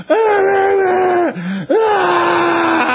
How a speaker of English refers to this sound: And I said to myself, well, we got to change the show opening now because me screaming out in front of the White House and the Capitol building.